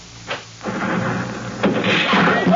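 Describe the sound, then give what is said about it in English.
The door of a gin mill built on pilings over the bay is pulled open with a brief scrape, followed by a rumbling, noisy stretch and a solid thud as it swings shut, fairly loud, with no voices. “I'll get the door.”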